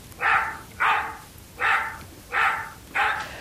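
A dog barks five times in a steady, evenly spaced rhythm, each bark short and fairly loud, with no talking and only a faint background hiss between barks.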